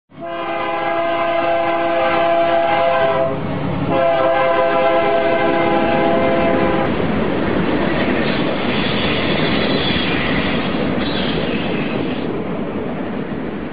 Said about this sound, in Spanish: Cuando el tren inicia su marcha hacia el norte en Arriaga, Chiapas, las ruedas metálicas comienzan a rechinar infernalmente.